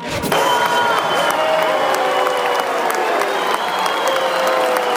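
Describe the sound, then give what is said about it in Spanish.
Loud, steady applause from a large audience at the Teatro Colón during the opera Carmen fills the whole five seconds, with long drawn-out boos and shouted voices riding over the clapping as the president, Javier Milei, is received. “El presidente fue a ver Carmen, una ópera al Teatro Colón, y fue recibido entre aplausos y algún que otro bucheo.”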